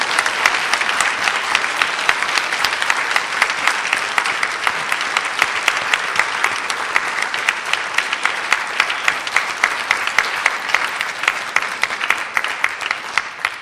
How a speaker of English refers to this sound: And thank you to the choir as well. I know you were itching at various points to clap them, and you felt, we're in a church, we shouldn't do that, we shouldn't look happy. And therefore, I'd like to encourage you now to give them a round of applause.